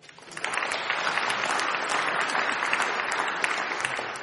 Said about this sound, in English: Wait a minute. You're applauding for all of them now, right?